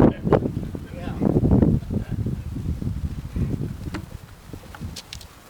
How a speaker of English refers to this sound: It's so windy